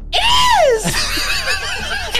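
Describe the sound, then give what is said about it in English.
A shrill, screaming death whistle: a loud, harsh wail that sweeps down in pitch, then wavers unsteadily and sustains for about two seconds with no talking over it. “Is that a death whistle?”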